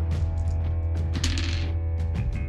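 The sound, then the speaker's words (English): Dice rattle and clatter in a quick, busy flurry of small plastic clicks, fairly loud over a steady low hum, with no one speaking. “At the end of your turn, yeah, the dice of fate do their jiggly thing.”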